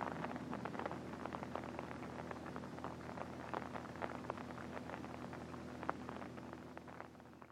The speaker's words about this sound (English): And the rain's just on time. Now it'll rain the rest of the night.